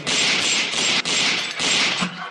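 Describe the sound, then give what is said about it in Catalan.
A rapid burst of gunfire during a raid at a bar in Sants: a dense, harsh rattle of shots running together for a couple of seconds with only brief breaks, loud and with no voices. “Porque debe estar sordo y no se ha enterado de los tiros que he pegado con el Fedme.”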